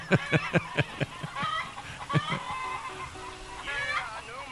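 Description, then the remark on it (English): Long-legged Rhode Island Red chickens cluck in quick, uneven bursts, a run of sharp clucks at first, then looser calls and a drawn-out squawk toward the end over faint background noise. “Got them nice, long-legged Rhode Island Red chickens”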